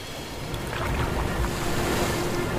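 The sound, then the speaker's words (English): A small rowing boat is paddled with oars through choppy water, with steady sloshing and a few splashy paddle strokes over a constant rush of wind and waves, fairly loud, no voices. “The oars? We're not gonna out-paddle bullets.”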